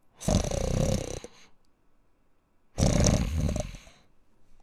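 A bear, the story character Langlang, snores loudly as he falls asleep after saying goodnight: two long rumbling, rasping snores separated by a quiet pause of about a second and a half, with no talking.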